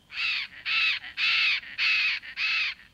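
Loud, harsh squawking calls of a tropical bird in a lush, flooding forest explored by boat, five raspy cries in a steady rhythm with short gaps between them, alone with no talking.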